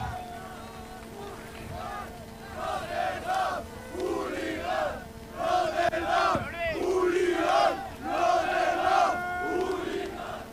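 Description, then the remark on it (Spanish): A large festival crowd at the Summer Rave cheers and whoops in applause for a DJ, many voices shouting together in rising swells that peak several times, loud, with a steady hum of background noise underneath. “Un aplauso para él, ¿no?”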